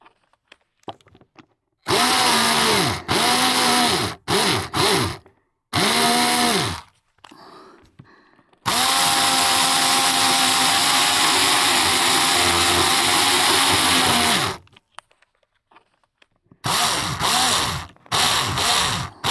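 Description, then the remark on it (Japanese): A loud power drill with a wide bit whines at varying speeds in several short bursts of revving, then one long sustained run as it bores through, followed by a few more quick bursts, with no talking. “こちらの刃は幅が太いので、貫通後は大きく音が出るんですよ。”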